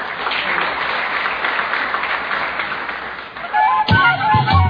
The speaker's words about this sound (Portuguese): Pois é, como vocês ouviram aí, não faltaram aplausos, né? Aplausos da família, dos amigos, dos agricultores.